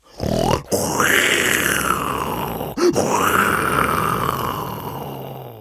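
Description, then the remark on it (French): A voice imitates a dinosaur with two long, loud, guttural roaring groans, each swelling and slowly fading, separated by a short breath. “Le dinosaure.”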